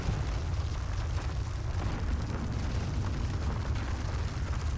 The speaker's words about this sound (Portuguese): No meio da floresta, de repente, uma explosão. Que interrompe a barulheira dos pássaros e insetos. Num dia qualquer, na década de 70, a terra no Vale do Javari treme com uma sequência de explosões no subsolo.